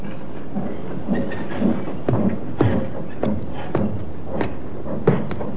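A train rolls slowly into the railroad yard at Alnmouth in the coal district around Newcastle, its wheels clacking over rail joints in a steady, uneven rhythm beneath a low rumbling drone, moderately loud, with no voices.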